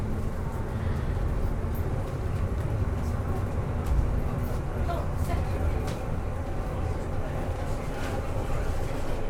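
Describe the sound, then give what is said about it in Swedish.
A steady, rumbling roar of a train in Sweden moving along the track on a 45-minute journey to Lindholmen, heard from inside, with continuous low clatter and rattling throughout; a voice talks faintly underneath. “Jaha, nu är vi på väg. Och den här tågresan kommer att vara i 45 minuter innan vi kommer fram till Lindholmen.”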